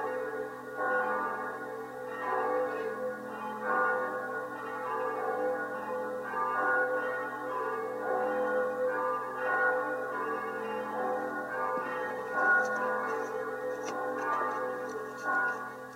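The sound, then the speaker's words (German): The bell of a home parish church peals steadily with rich, overlapping ringing tones that swell in a slow rhythm and sustain throughout, fairly loud and without any talking. “So hören wir das Geläut der Glocke unserer Heimatkirche.”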